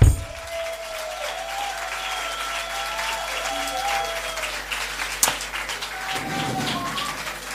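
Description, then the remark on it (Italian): A concert audience applauds steadily for several seconds, a dense, even patter of many hands clapping at once, fairly loud, with a faint sustained tone humming underneath. “Se ce l'avete, ancora un applauso”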